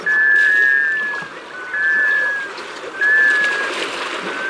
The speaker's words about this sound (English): You're hearing the call of a male black scoter. Black scoters are sea ducks that spend the winter on saltwater bays. The unmistakable drake is feathered jet black, set off by a bright yellow knob atop its bill, a beacon on the dark water.